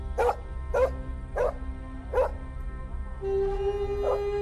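A dog barks and yips in a steady series of about six sharp calls, each roughly half a second apart, over a low background rumble, with a sustained tonal hum joining near the end.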